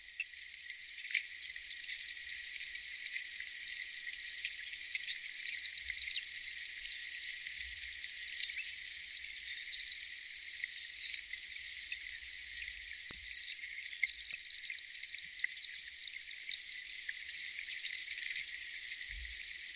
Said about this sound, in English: But what we're hearing is lumps of glacier that have carved off into this lake, and then they're drifting out towards the sea. Again, it's this sound of 20,000-year-old air being released from the ice as it dissolves.